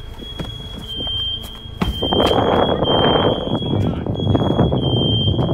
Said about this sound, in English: The alarms are going off. Look at the windows. Are you serious right now? The house is like smoked out.